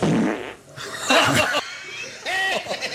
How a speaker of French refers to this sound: La mouche qui pète.